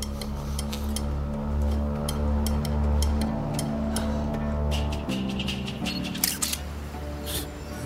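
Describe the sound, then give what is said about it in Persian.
Camera shutter clicks snap out several times in an irregular sequence as a photo is taken, ending with a quicker burst, set over a steady low droning hum. “عکستو زود بگیر فعلا، این دوربینو میکنم تو حلقت از معدت عکس بگیره.”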